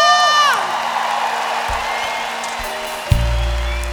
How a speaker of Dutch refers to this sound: lieve mensen, wat een ongelofelijke avond was dit. Een applaus voor jullie zelf!